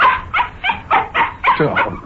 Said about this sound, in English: We're going for a walk. You don't have to beg. Yeah, now you got to bark it again. Can't make up his mind.